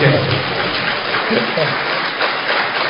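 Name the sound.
audience applause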